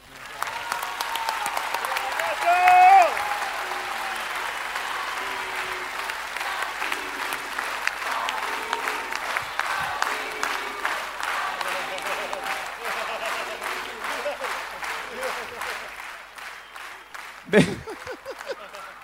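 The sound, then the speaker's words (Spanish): Sustained applause from a large audience thanking the speaker's father, a dense, steady clatter of many hands clapping for about seventeen seconds, with a few voices faintly mixed in before it fades out. “Me gustaría que si alguna vez mi padre les robó una sonrisa, aunque sea, agradecérselo con un aplauso, ¿sí?”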